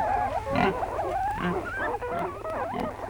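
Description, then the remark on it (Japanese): A live piglet stuffed whole inside a big meat bun squeals and grunts continuously, the sound slightly muffled as if coming from inside something, with a steady low hum underneath and no talking. “中に小豚を丸々一匹生きたまま詰め込んである。”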